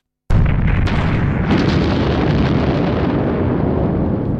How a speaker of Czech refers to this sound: Po třetí Pepa bagrista narazil na 200-kilogramovou leteckou pumu. Bohužel Pepa o pumu lehce štrejchl lžící bagru a bomba vybuchla.